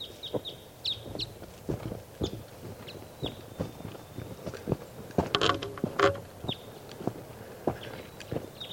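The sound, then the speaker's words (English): Short, high chirping calls of a wild bird perched in a tree above a truck, near a net, repeat in small bursts over a background of irregular clicks and footstep-like thumps, moderately loud, with no one talking. “Bird's near the net now.”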